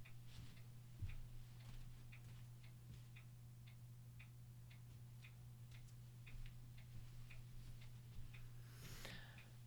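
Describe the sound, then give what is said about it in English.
A clock ticks steadily at roughly two ticks per second, soft, over a constant low electrical hum, with a brief rustle near the end. “Okay, the TikTok clock was not chiming.”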